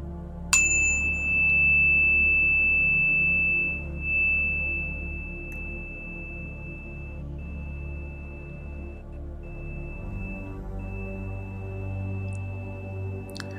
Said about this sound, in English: In a few moments, I will ring the bell to begin today's session.